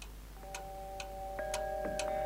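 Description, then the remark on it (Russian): A musical clock in a house ticks steadily about twice a second while clear, ringing chime tones sound and sustain over the ticking, building to a fuller chord near the end; fairly quiet. “В доме он водил Таньку по комнатам, заставлял для нее играть часы”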